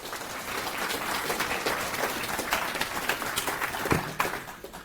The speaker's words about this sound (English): Give a big round of applause, please.